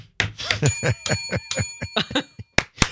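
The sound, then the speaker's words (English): A bright bell rings with a sustained, shimmering tone that carries through the whole moment, while a person talks over it in quick bursts. “With the bell sign. Ding, ding, ding.”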